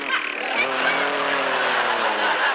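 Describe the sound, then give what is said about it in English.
A human voice imitates a revving motorcycle engine, a loud, continuous buzzing drone with a steady rising and falling pitch that lasts a couple of seconds. “That's supposed to be a motorcycle. We forgot to bring a sound man.”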